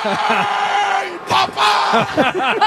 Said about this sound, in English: This is the loudest applause that I've ever heard in a concourse was for Cody Parkey being fired.